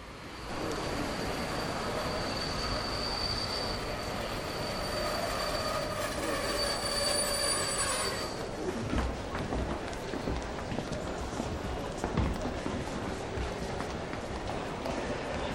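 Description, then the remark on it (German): A train rolls in with loud, sustained high-pitched wheel squeals for several seconds, then the squealing stops and rumbling, clattering carriage noise continues. “Du, unser Zug hatte Verspätung.”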